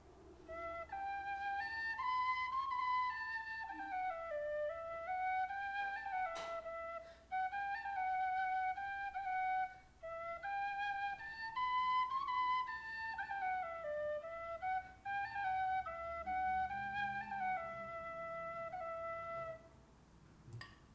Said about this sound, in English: The next one is carbon fiber. And it kind of feels like plastic, and it's super light, but it sounds kind of like a wood whistle.